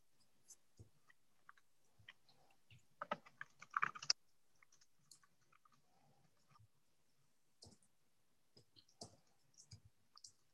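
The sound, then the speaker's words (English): Crisp computer keyboard typing as someone finishes typing a comment, in irregular bursts, with a fast flurry of keystrokes around the middle and scattered single clicks before and after, no voices. “We really would like it to be separate, or at least that's what I'm advocating for in my comment that I will finish typing now.”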